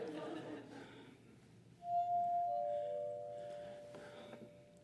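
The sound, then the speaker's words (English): After a brief noisy lead-in, a wet finger circles a glass rim, swelling into a pure, steady ringing tone; a second, slightly lower tone joins and both sustain smoothly to the end. “And they have to be squeaky clean in order, if there's anything on them, the glass will not vibrate.”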